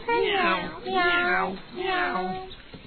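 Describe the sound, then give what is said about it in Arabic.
Three drawn-out cat meows in quick succession, fairly loud with nothing else behind them, most likely a person's voice imitating a cat. “مياو مياو مياو.”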